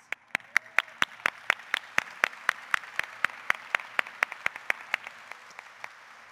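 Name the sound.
audience applause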